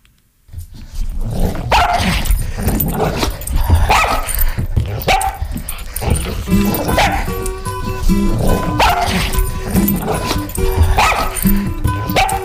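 A dog, Solo, the WMFO radio station mascot, barks loudly and repeatedly, a steady run of sharp woofs with occasional yips and growly edges, continuing for the whole stretch without pause.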